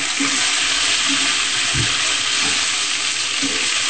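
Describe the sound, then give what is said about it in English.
A steady, continuous rush of hot water pouring into a cup holding vegan chicken-style stock cubes to dilute them, fairly loud, with a bright hissing splash throughout and no talking. “Just you can put them in there and I'll just add some hot water to it.”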